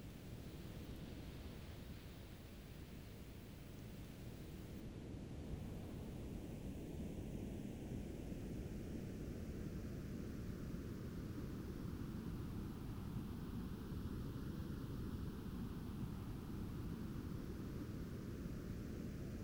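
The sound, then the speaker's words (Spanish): Steady pink noise fills the whole clip, a constant full-range hiss weighted toward the low end, with a faint slow sweeping whoosh drifting through it. No voices. “El sonido rosado es lo que oyes, un sonido que contiene todo el sonido.”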